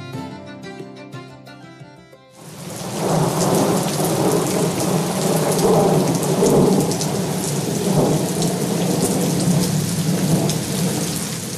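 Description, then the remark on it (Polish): Heavy rain that has come in from the sea falls in the evening over a poor village, turning into a downpour after a short tonal musical opening: a dense, steady hiss of drops drumming on surfaces with low rumbling beneath, loud, with no voices. “Od morza przyszedł deszcz, który przed godziną 19 rozpadał się już na dobre i zamienił w ulewę.”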